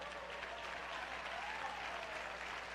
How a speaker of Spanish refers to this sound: Dele el aplauso al Señor.